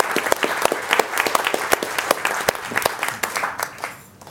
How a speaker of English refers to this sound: Let's give them a round of applause, too.